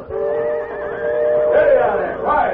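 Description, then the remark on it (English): Horses hitched to a buckboard wagon near the Medora Railroad Station neigh and whinny nervously, a sustained, wavering high-pitched call that rises and falls, with a second agitated whinny near the end, loud. “Those horses are too nervous to be hitched to a buckboard.”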